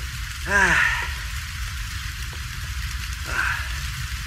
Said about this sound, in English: Or just how hard it was raining and you were out there.